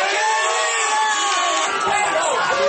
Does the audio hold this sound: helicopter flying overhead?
no